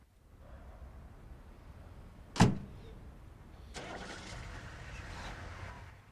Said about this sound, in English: Colin is roused from his slumbers by the sound of a car starting up